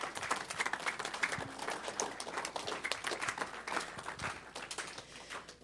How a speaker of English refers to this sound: Let's just give her a hand clap for her courage.